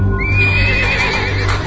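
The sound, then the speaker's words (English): A horse whinnies loudly and shrilly, its wavering cry held for over a second above a dense rumble of hooves and movement, as its rider reins it in in a dark space after charging down a tunnel. “Altisidora reins in her horse”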